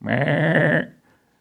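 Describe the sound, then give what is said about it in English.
A single loud, wavering sheep bleat lasting under a second, rich and nasal with a trembling quaver, then trailing off into quiet. “What's with the bleeding of the sheep?”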